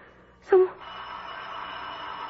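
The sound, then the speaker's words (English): A single short doorbell tone sounds once at noon, fairly loud, then gives way to a steady background hiss with no one speaking. “Oh, who could be ringing the bell at this hour?”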